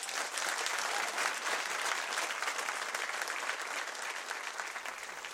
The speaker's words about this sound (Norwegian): Men nå, en stor applaus til kveldens gjest